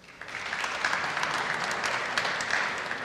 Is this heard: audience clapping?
yes